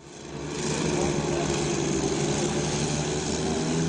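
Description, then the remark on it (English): The small engine of an unmanned drone, apparently used by Syrian forces to identify targets, drones steadily, rising in over the first second and then holding a constant buzzing whine with a low throbbing hum underneath. “I could hear the sound of an unmanned drone, and it seems the Syrians are using these to try and identify targets before they lay down their fire.”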